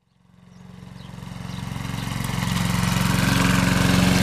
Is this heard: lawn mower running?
yes